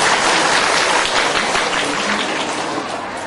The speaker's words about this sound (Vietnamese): Thôi quý vị cho tràng pháo tay tự thưởng đi.